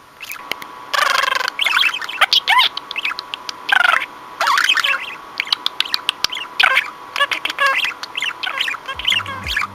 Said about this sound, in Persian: این صدا توی مرغ عشق ها دقیقاً معادل خورخور کردن توی گربه ها هستش. معنیش هم اینه که از همه چی بی نهایت راضی هستن و آماده چرت عصرونه.